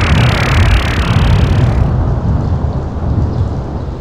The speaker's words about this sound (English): This evening there will also be thunder and lightning and a hurricane coming in into the north